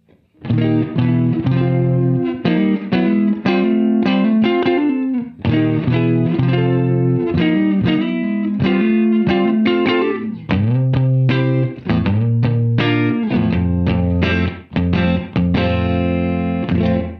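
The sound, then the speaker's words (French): Electric guitar on its bridge humbucker pickup playing clean, chiming chords and fills in a classic rock ballad style, with a short room reverb built into a pedal adding space; steady and fairly loud throughout, no voices. “J'ai oublié de vous préciser que la petite reverb room que vous entendez, c'est la reverb room qui est ici intégrée à la pédale, qu'on peut régler en mettant le switch sur alt”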